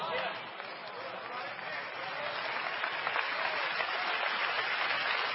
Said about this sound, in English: Hey, don't clap your hands because they tell you to clap your hands, but clap your hands because it means something to your God.